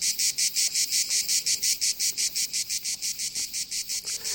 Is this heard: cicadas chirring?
yes